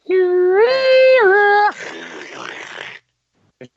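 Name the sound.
dial-up modem connection noise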